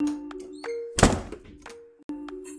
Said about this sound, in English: Did the door to the closet just close by itself? Unfortunately, yes. This is not good. Open the door. I want to get out of here. I can't. It's locked.